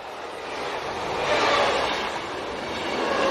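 A passenger train rolls steadily along the rails, a broad continuous rumble and rushing noise that swells slightly midway, with faint squealing tones from the wheels and no voices.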